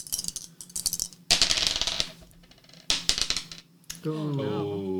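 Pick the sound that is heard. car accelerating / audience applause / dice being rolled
dice being rolled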